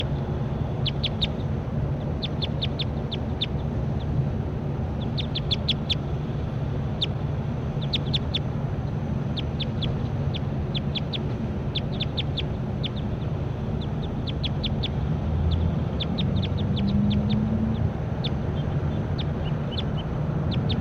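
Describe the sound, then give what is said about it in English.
A bird, referred to as bird 35, calls over and over in quick bursts of short, high chirps, repeating through the whole stretch above a steady low rumble of background noise. “Excuse me, this is bird 35.”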